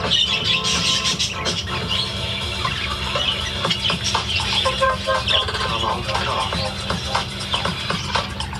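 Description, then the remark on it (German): A dense, steady chatter of many budgerigars in an aviary chirping and twittering, with a low rhythmic backdrop of radio music playing underneath throughout. “Obwohl die Wellensittich von Daniel Lütolf gerade Ruhezeit haben, schaltet er für mich das Radio ein.”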